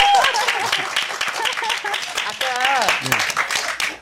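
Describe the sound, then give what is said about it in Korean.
A burst of audience applause, dense rapid clapping that holds steady for about four seconds, with voices talking and laughing over it before it drops off at the end. “이럴 때 박수 한번 주세요.”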